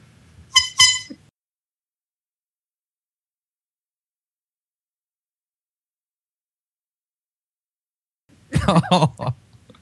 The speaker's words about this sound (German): Ich finde, wir sollten nach dem Hupen wegschneiden.